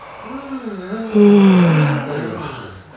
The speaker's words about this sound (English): Just imagine yawning. Find a way to trigger that yawning for yourself till a real yawn comes up, and just go with the yawn.